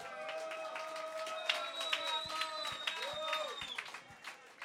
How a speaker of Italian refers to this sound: Un applauso.